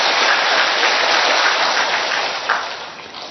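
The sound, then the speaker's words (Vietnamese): A crowd of brothers and sisters at a crowded, hot mission station gathering applauds on request, a dense wash of many hands clapping at once, holding fairly loud before thinning out and fading near the end. “Rồi, đúng thì cho một tràng vỗ tay đi thưa anh chị em.”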